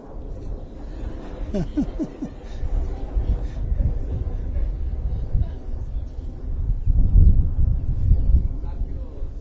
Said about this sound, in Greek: Πιο δυνατά, γιατί παίρνει και το αεροπλάνο τώρα.